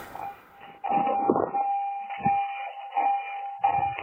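A car's door-open warning chimes steadily, a sustained electronic tone holding one pitch, while short bursts of rumbling, scuffing noise rise and fade around it. No one speaks.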